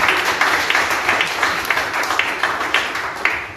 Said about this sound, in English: Clap to the Lord.